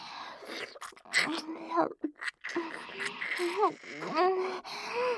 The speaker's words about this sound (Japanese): 息遣いが荒くなってきています。だいぶ興奮しているのですね。